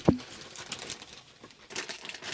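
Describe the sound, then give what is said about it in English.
A sharp thump at the start, then irregular crinkling and crackling of a bag of potato and sea salt chips being pulled open, with bursts of bright rustle rising and falling over a couple of seconds. “I'm going to put my mic down and open the bag.”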